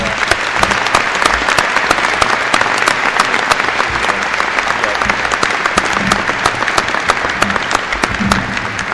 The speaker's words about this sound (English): if I can bear with everyone, to ask you to clap one more time for Senator Kinley, please.